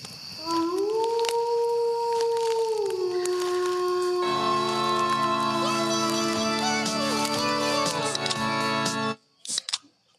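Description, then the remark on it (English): A person imitates a wolf with a long, loud howl that rises and then holds steady for several seconds. A thicker, layered howling tone joins in before it cuts off abruptly, followed by a few clicks. “now you do the wolf. Wolf howl.”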